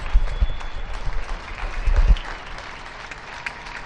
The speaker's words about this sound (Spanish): También está aplaudiendo el barrio de Erifrade.